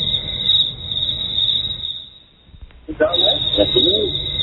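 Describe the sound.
Crickets trill in a steady, high-pitched drone that runs through the whole stretch, briefly dipping near the middle, with low voices murmuring underneath toward the end.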